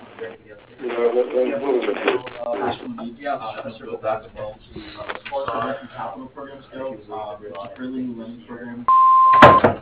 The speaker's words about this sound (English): I'm sorry, I'm unavailable to answer your call right now. If you leave your name and telephone number after the beep, I'll get back with you as soon as possible. Thank you.